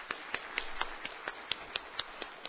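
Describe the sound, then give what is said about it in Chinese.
An audience gives steady, evenly paced applause to welcome a visiting guest from France, with about a dozen sharp, crisp claps standing out at a brisk rhythm over a soft background wash, and no talking. “好，我们非常欢迎您，好好，我们也一起鼓掌欢迎。”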